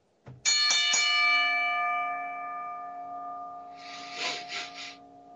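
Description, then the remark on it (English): A bell is struck three times in quick succession, its bright metallic ring sustaining and slowly fading, followed by a few short rustling bursts near the end. No one speaks. “ring the bell.”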